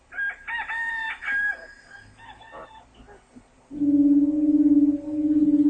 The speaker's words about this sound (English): Again, Peter denied it, and at that moment, a rooster began to crow.